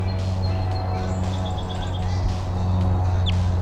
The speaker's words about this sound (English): That's 301 on the side giving Type 2 sounding calls. Pointing out 301.